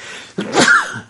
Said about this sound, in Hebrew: לבריאות, סליחה.